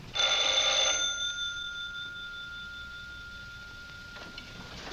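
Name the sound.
telephone ringing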